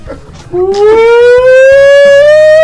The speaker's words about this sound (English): Not that fucking siren.